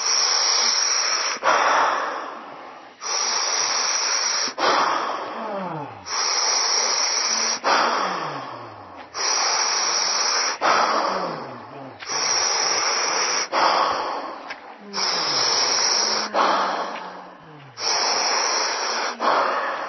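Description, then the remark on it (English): Slow, deep breathing done while relaxing, each loud airy inhale and exhale following the next in a steady, unhurried rhythm with no pauses between them. “You just keep breathing and relaxing.”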